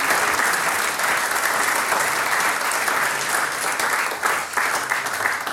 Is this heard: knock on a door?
no